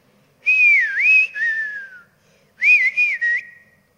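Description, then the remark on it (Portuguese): A man whistles a short, wavering melody in two phrases with a brief pause between them, clear, with no talking, by a river between two cornfields. “Meu pai assobia.”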